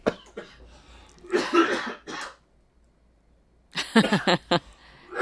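A few harsh coughs in quick bursts, a pause of quiet, then another cluster of loud, throaty coughs, with no talking.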